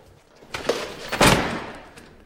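front door closing

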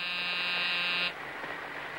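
door buzzer

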